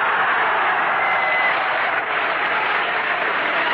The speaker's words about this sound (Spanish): ¿Qué me aplaudes si estoy aquí porque tú lo quisiste?